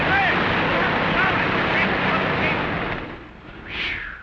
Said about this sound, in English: What's the matter with that engine? Been purring like a kitten for 6 years. Can't tell me that isn't American. Listen. Bearings smooth.